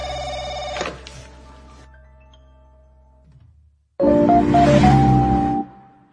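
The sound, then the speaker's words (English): A telephone rings twice with no talking: a bright, buzzy electronic trill fades out over a few seconds, then after a short silence a second loud ring sounds for about a second and a half. “Now you can answer the phone.”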